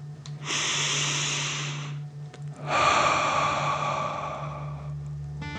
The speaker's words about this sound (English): Keep your hands on your heart and let's take 3 more deep dragon breaths. Remember to breathe in through your nose, filling up your chest and belly, and then out, pretending you're breathing fire. Deep breath in and out.